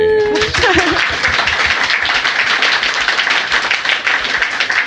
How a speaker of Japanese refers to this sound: はい、拍手。